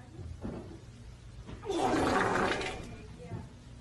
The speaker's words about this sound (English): Oh, that was a guy farting at the gym. That wasn't even real, man.